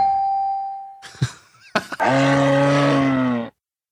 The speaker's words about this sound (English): That's a bear. It's a moose. What? That is a moose. A moose.